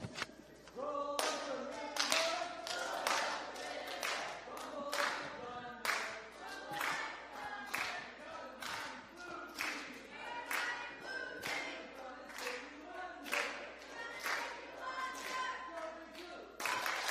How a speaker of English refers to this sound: Since the blue team took tonight, let's go ahead and have blue team do a quick cheer. And then after that, we'll have the green team. Let's hear it, blue.